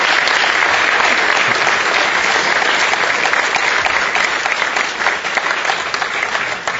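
A large audience at a Commonwealth Club event claps steadily, a dense, sustained wash of applause at full strength that holds evenly throughout, with no voices standing out.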